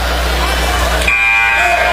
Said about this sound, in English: And there's a whistle.